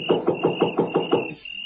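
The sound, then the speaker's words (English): Seven quick, evenly spaced, fairly loud knocks on a wooden front door in the dark, with a steady high-pitched whine running underneath and a faint hiss after the knocking stops. “It was so dark I couldn't see where the doorbell was, so I knocked.”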